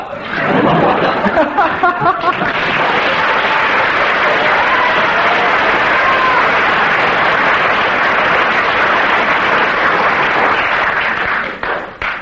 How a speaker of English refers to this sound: That's one mark per second of applause.